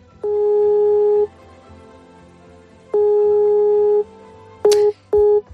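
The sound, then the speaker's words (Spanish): A telephone line tone from a hospital calling a patient's family, with nobody answering: two long, steady mid-pitched beeps separated by a pause, then a sharp click and quicker short beeps of a busy signal. No voices. “Y así una y otra vez, es decir, al otro lado del teléfono, o nadie lo coge o comunica o cortan continuamente la llamada.”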